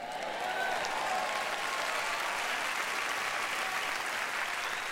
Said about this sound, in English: That was a very pleasant applause, but you missed the point.